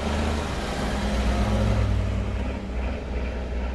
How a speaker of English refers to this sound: Truck after truck carrying troops enters the base in Marjayoun.